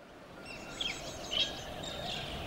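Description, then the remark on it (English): Several birds chirp and twitter over a steady outdoor hiss, with two brighter bursts of song standing out near the middle. The calls are moderately loud and overlap continuously, with no voices present. “Listen to the birds.”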